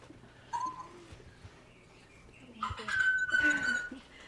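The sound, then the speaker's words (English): A parrot mimics the ringing of a metal water dish, a bell-like sound it learned from hitting its beak against the dish: a short pure ping, a pause, then a longer sustained ringing tone amid scratchy bird noises, moderately loud, with no talking. “that sound is a bell sound, which she learned because one of the things she does for fun is to hit her beak against the metal water dish, and it makes a ringing sound.”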